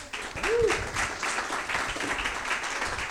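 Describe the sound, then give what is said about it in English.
An audience breaks into sustained applause for a panel of speakers, a dense, steady wash of clapping lasting a few seconds, with a brief rising-and-falling vocal whoop early on. “All right, so let's have another round of applause for this panel.”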